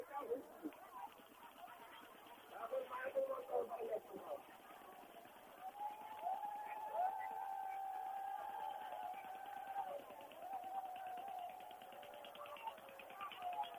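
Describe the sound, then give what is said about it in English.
A huge crowd of thousands of people boarding a boat to cross a river fills the air with dense, constant chatter and bustle, fairly loud, while a steady droning tone rises through the middle of the scene and then fades. “You can hear the boat taking like people, thousands of people here.”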